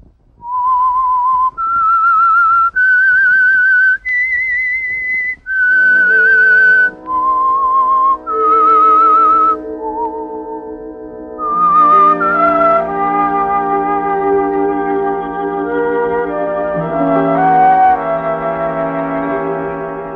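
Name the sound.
whistled theme melody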